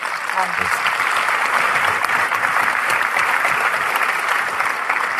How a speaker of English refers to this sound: I've been, well, let's first give Jeffrey a round of applause.